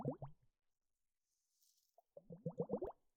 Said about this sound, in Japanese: この水の音。あなたにはどんな景色が見えていますか？